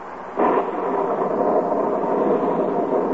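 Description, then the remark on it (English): Steady rain pours down outside a cabin on the shore of Lake Wapahokee in Wistful Vista, in duck hunting country, a dense, even hiss that swells in abruptly after a brief quiet start and holds without a break. No one speaks. “Inside this cabin are three mighty hunters. Three mighty disgusted hunters. Because outside the cabin, it's raining.”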